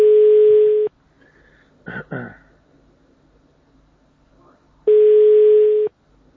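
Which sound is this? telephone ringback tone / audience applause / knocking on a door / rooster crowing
telephone ringback tone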